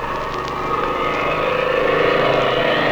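A steady engine drone hums continuously, fairly loud and building slightly, a small propeller plane approaching a ranch and diving over the ranch house at dusk, with no voices present.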